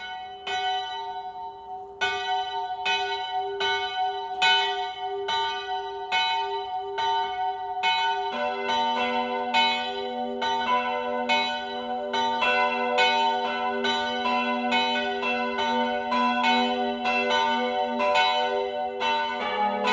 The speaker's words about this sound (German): Wir hören das Läuten der Filialkirche St. Nikolaus von Deutenhausen.